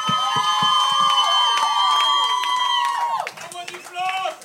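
An audience at a comedy show applauds and cheers a performer being introduced, with scattered claps under a loud sustained high-pitched whoop that slides down near the end, followed by a few more shouts.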